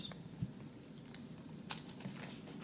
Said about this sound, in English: I'm just turning the page right there and see which one it is real quick here.